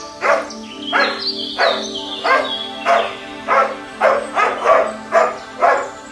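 A dog barks repeatedly, about ten sharp barks in a steady rhythm, clear with no talking, a faint tonal hum in the background.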